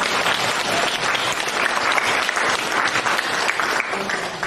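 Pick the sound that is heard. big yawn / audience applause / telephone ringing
audience applause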